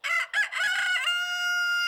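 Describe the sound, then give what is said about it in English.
A rooster crows loudly, a single harsh cock-a-doodle-doo with choppy opening syllables that stretch into a long, sustained, ringing final note. “In the barnyard, only one bird gets the honor of announcing the new day and waking you up.”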